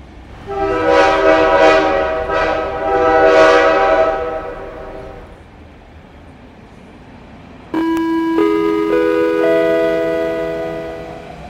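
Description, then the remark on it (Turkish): At a train station, a loud train horn sounds in wavering, pulsing blasts for several seconds. After a brief lull, a steady, sustained horn tone starts abruptly and shifts pitch. No one speaks. “Sayın yolcular, saat 12'de kalkacak Ankara-Kayseri treni 8 numaralı perondan 15 dakika sonra hareket edecektir.”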